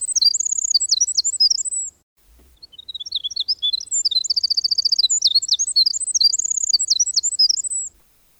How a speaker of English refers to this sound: I think my favorite of all the sounds of the North Woods is the long, silver-threaded song of the winter wren.